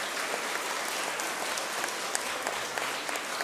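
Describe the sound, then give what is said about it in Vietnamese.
Steady crowd applause fills the whole stretch, a dense wash of many hands clapping at an even, moderate loudness with no voices over it. Children give a big round of applause at their teacher's call during a talk on wearing helmets. “Và cho một tràng vỗ tay thật lớn nào.”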